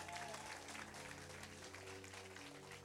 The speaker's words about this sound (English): Can we give a round of applause to these?